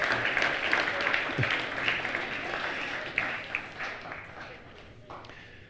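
Audience applause for a baby, a dense wash of many hands clapping at once, steady and fairly loud before gradually thinning and fading out toward the end.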